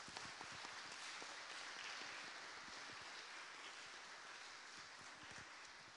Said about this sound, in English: Let's give them one more round of applause.